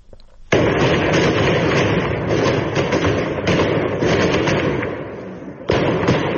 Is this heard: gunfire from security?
yes